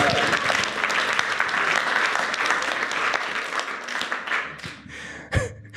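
A crowd applauds steadily, dense clapping filling the whole stretch at a fairly loud level, thinning slightly near the end before a final sharp burst and a fade.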